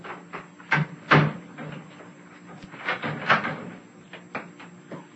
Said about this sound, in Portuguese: Vamos fechar a porta do banheiro e levar a chave.